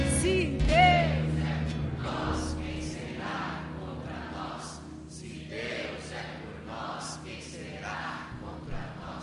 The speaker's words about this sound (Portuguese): Vamos dar um grito de guerra?